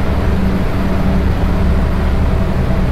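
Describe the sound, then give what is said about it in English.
A loud, steady low-frequency engine rumble fills the space without pause, with a constant droning hum and no voices, like machinery heard on board a ferry. “It's kind of noisy. I think the engine is probably around here.”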